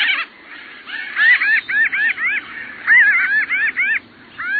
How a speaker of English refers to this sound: Pinyon jays are big, blue, and noisy. You'll find them in the West, sometimes in flocks of more than 100 birds.